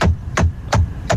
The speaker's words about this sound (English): That's a knocker. I believe that's a knocker. Now, is that the person knocking or is that the doorbell just knocks for you?